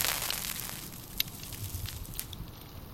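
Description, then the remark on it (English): A lighter flame held to a pipe, a soft steady rushing hiss broken by a few sharp, scattered crackles, fairly quiet, with no voices. “watched the flame surge, travel through each individual chrome. A few crackles, pale, wispy smoke frothing off the brim.”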